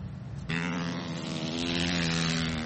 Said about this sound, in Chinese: 路面结冰会让多数司机感到紧张，但是在冰上飞驰却是美国一些摩托车手期待已久的。